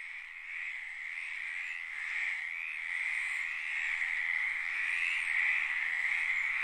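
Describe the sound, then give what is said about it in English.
A dense chorus of frogs calls continuously at a field site in Central America, a steady high-pitched trilling drone that swells slightly in loudness, with no voices present. “And as Karen told co-producer Miles Traer, she's seen frog extinctions sweep across her field site.”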